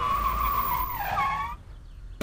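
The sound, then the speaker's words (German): A loud, high tire squeal as a police car skids to a stop, the whine bending downward before cutting off abruptly, followed by a brief thud at the end. “Die Polizeiautos jetzt so plötzlich her.”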